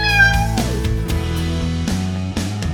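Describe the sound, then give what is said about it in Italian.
A cat gives one drawn-out, high meow that slides downward in pitch, followed by a steady low hum or musical tones continuing underneath. “Parlo con i miei gatti e con la Colette come se parlassi con altri esseri umani.”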